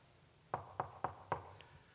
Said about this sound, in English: Most curtains don't sound like that, but our curtain this morning does. And we knocked, and we knocked, and the curtain didn't move, stayed there.